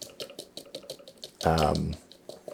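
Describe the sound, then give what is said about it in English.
A quick, steady series of light metallic taps, fairly soft, as a sifter holding flour and confectioner's sugar is gently tapped on the middle top of a food processor blade attachment, repeating about every fifth of a second, briefly interrupted by a short spoken phrase in the middle. “And now I'm just going to gently tap it. I just tap it on the middle.”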